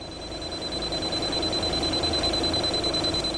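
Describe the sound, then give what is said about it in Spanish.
A steady, high-pitched electronic beep holds without a break over a constant rush of breath blown continuously into a breathalyzer mouthpiece during an alcohol breath test, fairly loud, with no talking. “Tiene usted que soplar de forma continua, sin pararse, hasta que se apague el pitido que usted escuchará, cuando usted quiera.”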